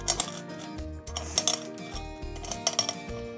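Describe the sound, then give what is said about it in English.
Peppercorns crunch and crackle in a few sharp, gritty bursts that come in small clusters as they saute in hot oil on the stove, over a steady tonal hum of background music. No one speaks. “Hear them crunching?”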